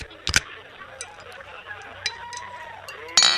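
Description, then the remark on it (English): Glasses clink together in a toast, two sharp, bright taps with a short ringing tail, one near the start and one at the end, over a low murmur of background noise. “Cheers, brother. Cheers to you.”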